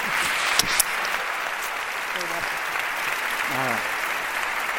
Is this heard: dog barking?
no